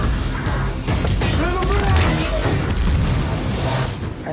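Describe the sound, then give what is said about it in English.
A dense, loud wall of movie trailer sound: deep booming explosions and rumbling crashes layered with swooshing effects, sustained without a break for several seconds. “All right, we're going to leave that right there because it just goes on and on and on and on with lots more explosions.”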